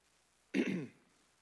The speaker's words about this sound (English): I notice everybody seemed to have a little bit deeper voice tonight when they came in, and a little more hacking and coughing going on.